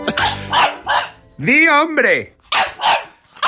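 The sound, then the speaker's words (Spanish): A person imitates a dog barking with a few loud, voiced woofs and a drawn-out whining howl in the middle, with short pauses between the sounds. “Ladrido, di hombre.”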